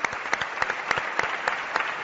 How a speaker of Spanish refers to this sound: Vamos a dar un aplauso a los amigos